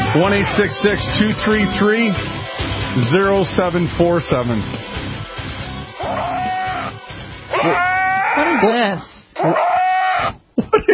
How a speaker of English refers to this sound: What is this? Is that a Nubian goat? Sometimes the goats feel left out. I totally think that's what's going on here.